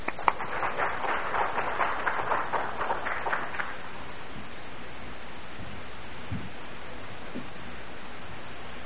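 A crowd claps hands in welcome, a dense burst of many overlapping claps lasting a few seconds before stopping abruptly, leaving a faint steady hiss.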